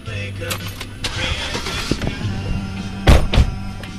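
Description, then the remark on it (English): A truck engine runs with a steady low rumble at the D River Ranch, a farm near Aliceville, Alabama, broken by a few clicks and rattles, then two heavy thunks near the end. “If you want to see the whole farm, you need a truck.”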